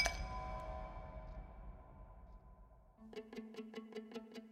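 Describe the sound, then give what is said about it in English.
A piece of iceberg ice clinks in a highball glass of whiskey cocktail: one bright ringing chime fades slowly, then a quick, steady run of about eight light glassy taps follows, with no voices. “"I brought you a piece of it for your highball."”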